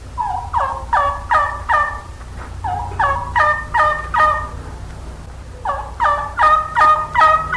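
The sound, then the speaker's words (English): A standard wild turkey yelp made on a turkey caller, three series of sharp, evenly spaced yelps rising in pitch, played loud with no talking and a low hum underneath. “Let's begin with the standard yelp. The perfect call for old gobblers in the spring and also for hens and young gobblers in the fall.”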